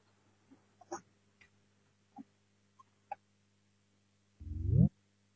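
signal or alarm, parliament voting bell

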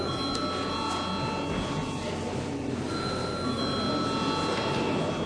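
signal or alarm, parliament chamber bell

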